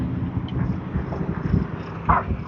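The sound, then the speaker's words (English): A small corgi collie mix dog barks, one sharp bark standing out near the end, over a steady outdoor rumble of cars going by. “Cars going by and this little corgi collie mix is having none of it.”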